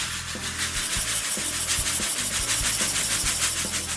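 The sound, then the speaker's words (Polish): Dry couscous pours into a pot of boiled water as a steady, gritty hiss for about four seconds, with quick rhythmic surges in the rustle and soft low music running underneath. “W międzyczasie nasza woda na kuskus się już zagotowała, więc możemy wsypać go do garnczka.”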